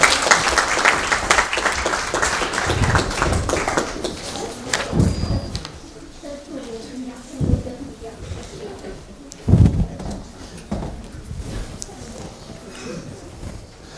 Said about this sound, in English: Thank you very much. Can we give him a big clap, please?